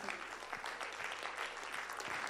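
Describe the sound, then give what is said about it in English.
An audience claps hands together in a dense, continuous burst of applause, many overlapping claps blending into a steady, bright wash with no voices standing out. “I wish somebody clap your hands to God.”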